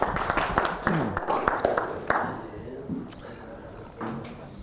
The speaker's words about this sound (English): a big round of applause.